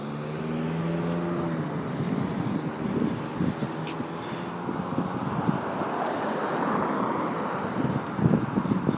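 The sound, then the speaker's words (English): A car goes by on Mary Street, a steady engine hum and broad rushing tire and wind noise that swells midway and then eases, with no one talking. “Okay, let that car go.”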